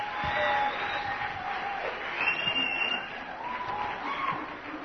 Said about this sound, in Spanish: ¿Qué tal si le damos un aplauso a Dios? ¿Ok? El que trae la nieve.